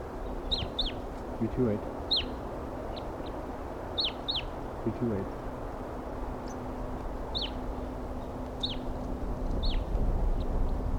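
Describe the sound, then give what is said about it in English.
Two wild birds, a male and a female perched side by side in a treetop, call back and forth with short, high, sharp chirps repeated in loose bursts, plus a couple of lower, rougher calls, over a steady background hiss. “Pair of wild birds here.”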